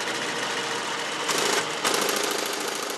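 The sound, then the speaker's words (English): An IBM 1401 computer system, about the size of a two-car garage, running at the Computer History Museum in Mountain View, California, started up by a few old-timers to demonstrate it: a dense, steady mechanical whirring and clatter, like a busy sewing machine, with two brief louder surges partway through and no voices. “You're hearing the IBM 1401.”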